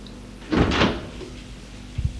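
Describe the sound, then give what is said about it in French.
A door swings open with a brief, breathy scrape lasting under half a second, then a soft, low double knock of wood settles a moment later. No one speaks. “Il est réveillé par la porte qui s'est ouverte.”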